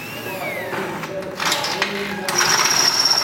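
Workshop noise of drilling, screwing and welding: a whirring power tool with shifting pitch, rough bursts of grinding hiss, and a steady high-pitched whine rising toward the end, all fairly loud and continuous.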